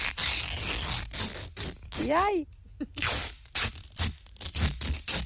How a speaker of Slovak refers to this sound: No, ak ste si povedali, že je to lepiaca páska, výborne, ale nič nevyhrávate.